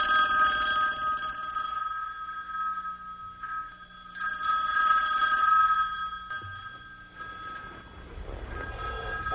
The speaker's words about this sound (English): Boy, I wish that phone would stop ringing. I'm not going to get up to answer that phone. I just wish it would stop ringing. That damn bell must be at the other end of the world.